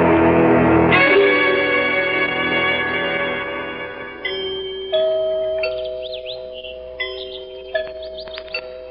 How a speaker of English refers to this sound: Did you hear the chimes? It sounds like the bell in our tower.